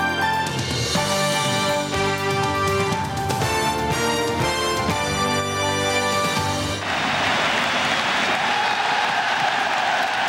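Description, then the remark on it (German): A stadium crowd in Hamburg's Volksparkstadion cheers and applauds loudly in a dense, roaring wash of sound for the new German football champions, 1. FC Kaiserslautern, as the championship trophy is presented, after several seconds of bright, tonal music. No one speaks. “Jubel für den neuen deutschen Fußballmeister.”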